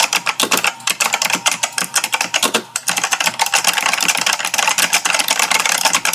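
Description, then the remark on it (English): Computer keyboard keys clatter rapidly and continuously as a phone on speaker, propped up against the keyboard, presses and shifts against them. A loud, dense rattle of plastic clicks lasts several seconds with no one talking. “So I put you on speaker and I propped you up gently, well, I propped the phone up gently, against my keyboard. Yes, and that's when I heard this.”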